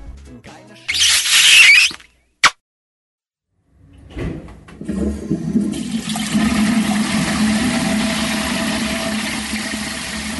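A toilet flushes: a sharp clatter and a click of the handle, a brief pause, then a loud, sustained rush of swirling water that keeps roaring to the end.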